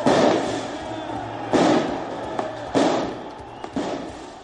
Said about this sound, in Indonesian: Beberapa tembakan dilepaskan di Paris, mengeluarkan asap tajam ke udara, sementara para pengunjuk rasa meluapkan kemarahan mereka terhadap undang-undang keamanan yang akan membatasi publikasi wajah polisi.